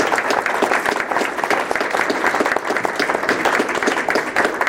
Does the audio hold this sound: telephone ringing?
no